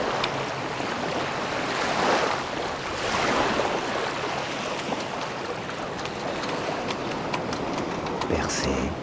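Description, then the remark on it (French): Heavy open-sea swell rolls in with waves breaking in broad, surging crashes, a continuous loud roar of surf that rises and falls in slow swells, with no voices. “De la forte houle.”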